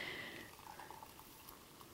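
Hot water pours steadily into a cup over about a tablespoon of horsetail to make tea, for a couple of seconds, a soft, continuous trickling splash, fairly quiet, with no voices.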